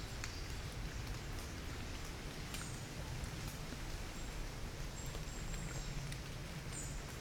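Steady rain patters on leaves, a dense continuous hiss with scattered sharper drip ticks, even in level throughout, with no voices.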